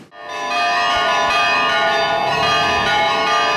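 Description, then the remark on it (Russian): Church bells ring loudly and continuously at a church on its patronal feast day, their overlapping metallic tones blending into a rich, sustained clangor that swells in quickly and holds steady, with no voices. “И вот постепенно праздничную напряженную подготовку сменяет звон колоколов.”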